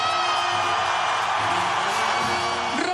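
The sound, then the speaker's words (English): A large home crowd at the Davis Cup in Malaga, Spain, cheers loudly and continuously as it welcomes Rafa Nadal to the court, a dense roar of voices with whoops and shouts rising out of it, steady throughout with no break. “Tears welled up in Nadal's eyes as the home crowd welcomed him to the court and Spain's national anthem played.”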